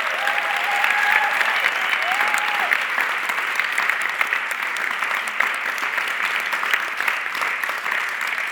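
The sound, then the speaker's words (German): Sustained audience applause, a dense steady crackle of many hands clapping at a fairly even loudness for several seconds, with a few brief whistle-like tones early on. “Einen großen Applaus.”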